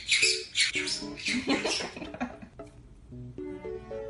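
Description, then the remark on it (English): A bird screams from the top of a tower in a series of harsh, raspy, harmonic squawks, loud, repeating in uneven bursts with brief gaps and no talking. “You're just screaming by yourself on the top of the tower.”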